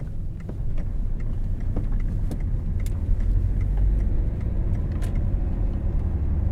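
Steady low rumble of a car in motion heard from inside the cabin, engine drone and road noise continuous throughout, with faint clicks and rattles occasionally popping above the hum.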